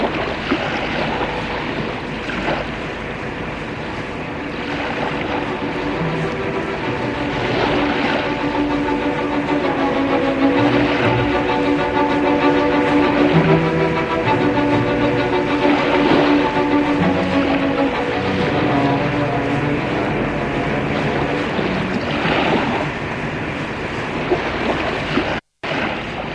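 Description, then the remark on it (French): Steady, loud engine drone heard from inside a cabin, a constant low rumble with humming tones that holds throughout, broken only by a brief cut near the end. No voices. “Il fait chaud, très chaud dans la cabine. Ça sent mauvais. Et toujours le bruit du moteur.”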